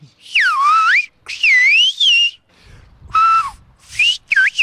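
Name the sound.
whistled language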